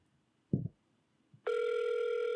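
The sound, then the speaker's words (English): A short soft thump, then the steady electronic ringback tone of an outgoing phone call sounds loud and continuous, humming on without a break until the end. No one speaks. “There we go. It's ringing. Can you guys hear the ring?”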